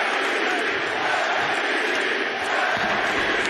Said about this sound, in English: What was it like to be on that free throw line and hear the crowd chanting MVP as you took the line?